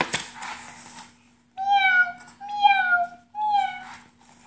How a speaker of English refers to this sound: cries, meow!